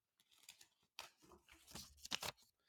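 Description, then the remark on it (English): A piece of paper being folded in half and then torn down the middle and along each side, with a few quick rustling crinkles followed by several sharp ripping bursts, no voices. “You can just fold it in half, tear it down the middle, tear one side out, and then tear the other side out.”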